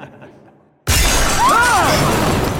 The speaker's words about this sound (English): A split second after the lights went out, the skylight high above us shattered, and a far different light erupted into view above.